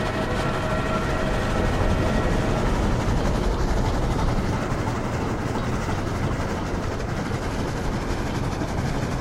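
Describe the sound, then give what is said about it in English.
A fast train roars by, a steady, dense rumble of wheels and rail noise holding loud throughout with a faint rhythmic clatter, no voices present. “Just then there came a vague vibration in the earth and air, quickly changing into a violent pulsation and an oncoming rush that caused me to start back, as though it had force to draw me down.”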